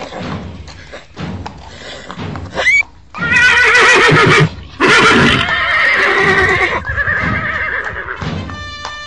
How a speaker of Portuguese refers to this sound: Olha que bela comitiva dos embaixadores da Babilônia. Olha os cavalos. Os cavalos de raça do Egito.